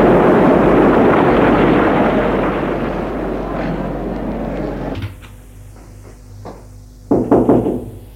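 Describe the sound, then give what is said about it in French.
A loud, steady rumble cuts off, followed by scattered taps and then a quick burst of three or four sharp, clear knocks on a door. “À la porte. Entrez.”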